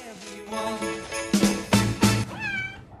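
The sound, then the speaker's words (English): A cat in winter snow meows several times, drawn-out wavering cries with a rising and falling pitch, broken midway by a few short bursts of rustling noise. No one speaks. “An otter sliding across the snow on its tummy, and footage of dogs and cats enjoying the winter weather.”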